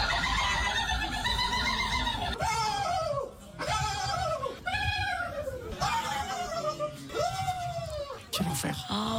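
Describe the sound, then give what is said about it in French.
A person at the turkey-call world championship in France imitates a turkey's gobble with loud, rapid warbling calls, a series of repeated rising-and-falling harmonic bursts with brief gaps, over a noisy background of other voices. “Et alors, en France, du cri de dindon, écoutez, ça glougloute très très fort.”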